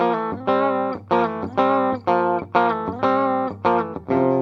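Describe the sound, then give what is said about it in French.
A clean electric guitar with a very basic clean tone plays a steady rhythm of ringing chords, about two per second over a sustained low note, fairly loud with no one talking. “Je vais d'abord vous faire écouter mon son clair.”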